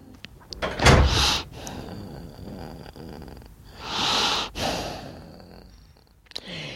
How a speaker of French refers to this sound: C'est là votre bureau? Oui, oui, vous fermez la porte.